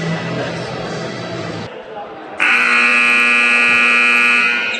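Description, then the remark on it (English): Arena crowd noise fades briefly, then a loud, steady basketball game buzzer blares for a couple of seconds, a harsh sustained tone over the murmuring crowd, marking the start of the second half at the 2024 Savannah Invitational Tournament, with the Pirates leading the Spoof Hounds 35-19. “And as the buzzer sounds, second half to start here.”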